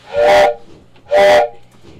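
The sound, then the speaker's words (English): Two loud blasts of a steam train whistle, each a short, breathy, hissing toot about a second apart, with a faint low rumble between them and no voices. “folks, I think I hear a train.”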